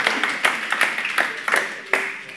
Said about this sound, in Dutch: Ja, kom maar even naar voren toe, jullie twee. Dank je wel. Zou je even een applaus voor onze vrijwilligers hebben? Dank je wel.